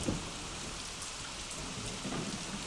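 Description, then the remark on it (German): Steady, dense rain pours down with a constant hiss, while low thunder rumbles beneath it throughout. A full thunderstorm with no voices, loud and enveloping. “Es regnet und ein Sturm kam.”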